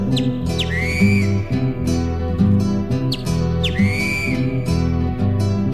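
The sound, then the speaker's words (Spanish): A great kiskadee's call rings out twice, each a sharp rising whistle that levels into a sustained note, heard over a steady bed of instrumental music. “Grita el bicho feo.”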